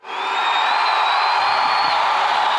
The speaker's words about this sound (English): I'm going to get my thunderous applause button ready.